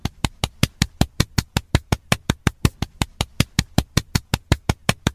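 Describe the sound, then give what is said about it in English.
A single pair of hands claps rapidly and steadily, roughly five sharp, crisp claps per second for about five seconds, with no voices. “I want to give you what I give all of my guests, and yours is especially special, and it is a hand clap.”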